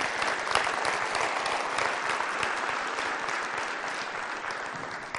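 An audience claps steadily for about five seconds, a dense, even wash of many hands with no pauses, holding a constant loudness throughout and no speech over it.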